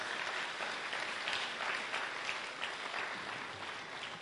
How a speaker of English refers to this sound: another round of applause there. That was awesome.